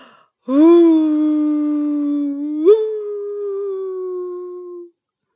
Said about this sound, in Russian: Перестанет на минутку, прислушается, начнет лаять и кончает жалующим воем.